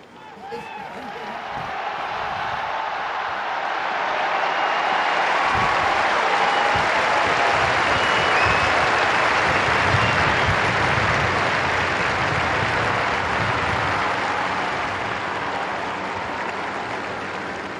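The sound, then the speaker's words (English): A crowd estimated at 100,000 or more in a square cheers and applauds for a new pope in a dense, steady roar that swells after the first seconds and holds loud for about fifteen seconds, with scattered voices mixed in. “And of course, the crowd is cheering, and we can hear that as well from the square, even though we're up here.”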